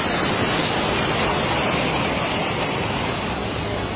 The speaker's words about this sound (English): Interesting trying to talk and eat with that sound, but the beautiful water just gushing down forth there out of the mountainside.